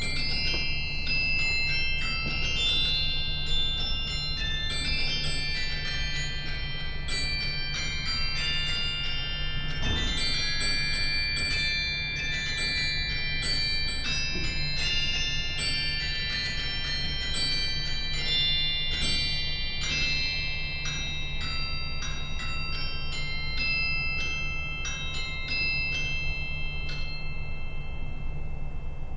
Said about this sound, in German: Doch es wird deutlich, von den insgesamt 67 Registern hat auch diese Orgel ganz besondere. Zum Beispiel das Glockenspiel.